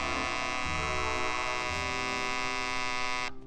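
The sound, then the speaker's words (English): The alarm of an RCA Victor Personal clock radio buzzes to wake the sleeper: a steady, harsh electric drone continues for a few seconds, dense with overtones, then cuts off abruptly. No one speaks. “Yes, 10 minutes after the radio automatically goes on, the Personal's alarm can buzz to make sure you don't oversleep.”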